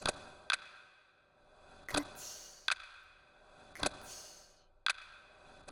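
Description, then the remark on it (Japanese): A clock ticks steadily, sharp distinct clicks arriving in an uneven tick-tock rhythm, roughly seven or eight beats, clear with faint soft whooshes between some ticks. “時計がぐるぐる回っていますね。”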